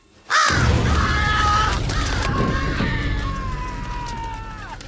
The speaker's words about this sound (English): Crows erupt in the air in front of him. He falls over, stands up, and throws dust at them.